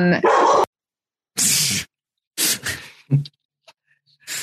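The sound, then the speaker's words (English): Several sharp dog barks ring out in short bursts with silent gaps between them, fairly loud, followed by a softer yip and some faint trailing sounds. “Dogs are a big fan of Tina.”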